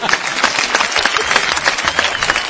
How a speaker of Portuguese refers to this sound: Palmas para a Juliana Morgado!